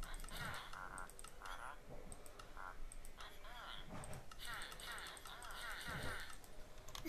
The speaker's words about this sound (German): Ich klick da einfach alles durch, weil ich keinen Bock hab.